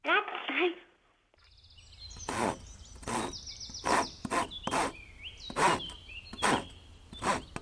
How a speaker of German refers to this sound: Aber wie, also, das Sägen, wie war jetzt das? Ritsch. Ja, genau.